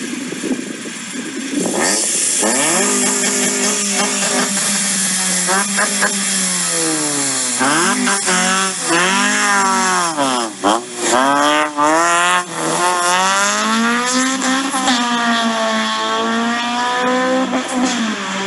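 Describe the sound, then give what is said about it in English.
The loud, modified engine of a $3,000 used Civic car revs repeatedly, its pitch sweeping up and down in waves with a raspy, buzzy exhaust tone that drones on for the whole stretch. “Now you tell me why you need that in a $3,000 used car.”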